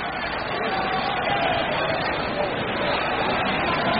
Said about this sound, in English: All right, here's Logan, walked and struck out in 2 previous trips. And the crowd begins to get behind the hitter.